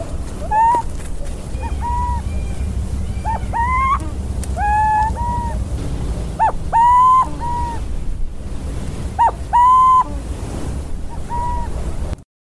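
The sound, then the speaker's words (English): An owl recorded in Brazil calls repeatedly, giving short, clear, slightly rising hoots in irregular clusters over a steady roar of surf and wind. No one speaks. “And so the intention is to give folks a chance to hear these other calls, because like I mentioned earlier, owls don't learn their vocalizations.”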